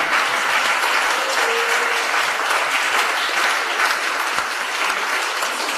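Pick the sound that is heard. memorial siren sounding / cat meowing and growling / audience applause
audience applause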